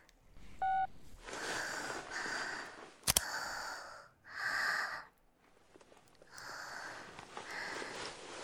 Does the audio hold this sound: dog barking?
no